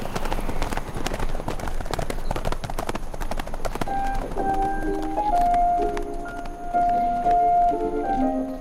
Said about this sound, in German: Galoppiert noch einige Sprünge neben ihr her.